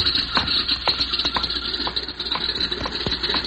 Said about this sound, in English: My word, he's even closing the door to his ship.